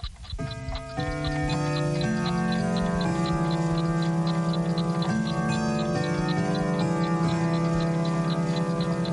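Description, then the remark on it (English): An old, skillfully made clock from an old school in the city ticks steadily at a quick, even pace, its clicks clear over a sustained droning hum of layered tones. No one speaks. “I want you to see this clock.”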